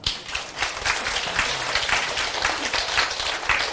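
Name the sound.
group applause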